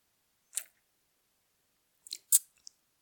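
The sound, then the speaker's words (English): Someone takes a quiet sip of wine: a short slurp, a pause, then a few more brief wet mouth sounds and a small click, with no talking. “Let me take a sip first.”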